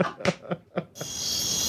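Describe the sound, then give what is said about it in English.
A few short, rhythmic bursts give way to a steady, shrill chorus of outdoor crickets at night, a continuous high-pitched trill that holds evenly to the end. “They're just actual outdoor crickets.”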